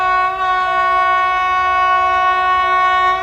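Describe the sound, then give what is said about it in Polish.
A loud, steady train horn holds one unbroken chord for a few seconds, with no voices, from a passenger train arriving in Warsaw. “Dojeżdżamy do Warszawy. Kochani pasażerowie pociągu, proszę zachować ostrożność.”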